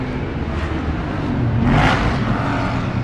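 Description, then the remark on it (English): A car engine drones steadily and then revs up in a brief surge of rising whine near the middle before settling back, heard from inside the moving vehicle with no talking. “Please stop the car. You want to kill me?”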